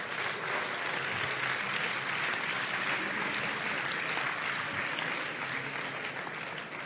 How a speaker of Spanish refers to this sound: Los nominados en la categoría de ocio son La órbita de Endor, la voz de Horus y los Danko. Un aplauso para ellos. Un aplauso.